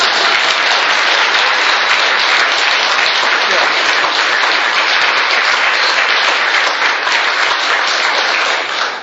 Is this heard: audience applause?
yes